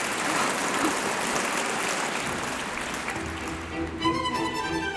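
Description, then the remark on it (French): A large standing audience in a Paris concert hall applauds steadily in December 1838 after the young mezzo-soprano Pauline Garcia sings, a dense, loud wash of many hands clapping throughout, with a faint tonal sound emerging beneath it in the final second. “Ils sont debout. Ils applaudissent.”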